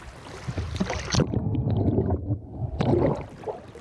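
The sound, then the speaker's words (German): Water gurgles and glugs as an empty plastic bottle is held under the surface of a lake at a small bathing beach in Lower Saxony, Germany, and fills to take a water sample, with splashy bubbling bursts and a wet, hollow churning that swells and settles. “Ich stehe in Gummistiefeln an einem kleinen Badestrand, halte eine leere Plastikflasche ins Wasser und lasse sie volllaufen.”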